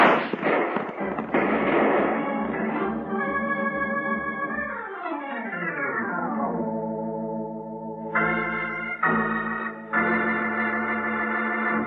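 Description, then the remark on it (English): Rapid six-gun shots crack in a burst during a Western shootout at the start, over a busy orchestral backdrop, before the music slides downward into sustained, bright chords with no more gunfire. “Put that six gun to work.”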